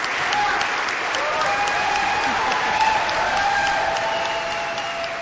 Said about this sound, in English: Earlier in the day, the Stonington Democrats' surprise return to the General Assembly after suffering a head injury in a fall outside his home in July brought fellow lawmakers to their feet for a rousing and sustained applause.